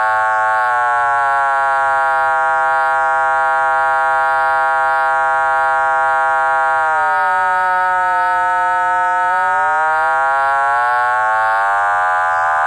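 A loud, continuous electronic tone from a triangle wave modulated by a fast sine wave control oscillator, rich in buzzy overtones. Its inner partials slide downward and then sweep back up partway through as the control oscillator's frequency is changed, with no talking.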